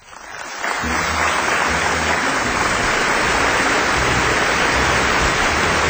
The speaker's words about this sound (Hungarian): Kedves népem! Oly jól esik ez az őszinte taps. Kár, hogy több mint a felét magammal hoztam.